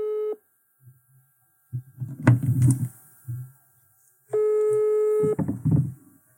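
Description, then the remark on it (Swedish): A telephone ringback tone, from a call being placed to Bauhaus, sounds twice, a steady electronic beep lasting about a second each time, several seconds apart, with low muffled thumps and rustling noises between the rings. “Nu ringer hon.”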